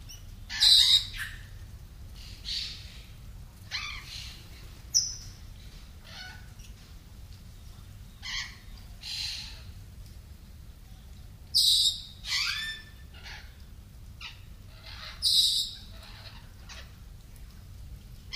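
Birds chirp and squawk in scattered bursts, with several sharp high calls standing out over a low steady rumble of background noise. No one speaks.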